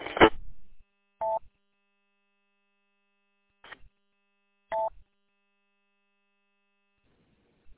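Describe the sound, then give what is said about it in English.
Short electronic beeps from a radio repeater's AllStar feature sound at irregular intervals over a faint steady hum, one opening burst followed by two mid-pitched tones and a couple of quieter clicks, with no talking. “I don't know why it keeps beeping. It's an All-Star feature, apparently.”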